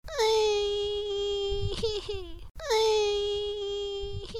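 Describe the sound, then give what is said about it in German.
A voice imitates a piglet crying bitterly: two long, high, wavering wails, each ending in a sobbing catch, loud with no other talk. “Das Schwein fing bitterlich an zu weinen.”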